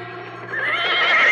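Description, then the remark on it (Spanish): A single loud horse neigh that rises in pitch and intensity, a shrill whinny ringing out on its own with no talking; the horse has just been hit during a fight. “¡Mi caballo! ¡Le dieron a mi caballo!”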